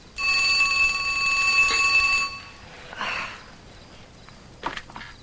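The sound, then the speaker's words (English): A loud, sustained telephone ring with a bright metallic tone lasts about two seconds, then stops, followed by a soft rustle and a sharp click as a woman, woken from sleep, answers the phone. “She awakens, turns on a lamp, then answers the phone.”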